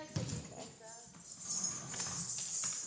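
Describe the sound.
A crowd stomps their feet in a steady rhythm, heavy thuds repeating over a bright wash of cheering and voices in a large, lively room.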